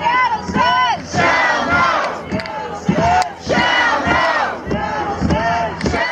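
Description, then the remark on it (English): A large crowd of protesting kayakers on the water in Elliott Bay off Seattle chants loudly in unison against Shell's plan to drill for oil in the Arctic. They repeat short rhythmic phrases with rising and falling voices, separated by brief pauses, over a steady wash of crowd noise. “Hundreds of kayakers have been gathering in Seattle during the past couple of weeks to protest Shell's plan to drill for oil in the Arctic.”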